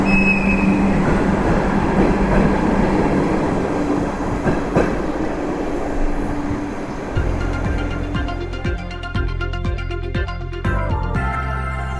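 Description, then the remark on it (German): A train pulls away after children on a school trip have got on or off, with a steady low rumble, then rhythmic wheel clacks over the rail joints set in and quicken, fairly loud, with no voices. “Ob auf dem Schiff, im Zug oder vor der Seilbahn, was es an so einem Schulreisetag vielleicht braucht, ist ein bisschen mehr Geduld, bis alle Kinder ein- oder ausgestiegen sind und der Zug wieder abfahren kann.”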